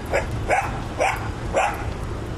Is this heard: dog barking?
yes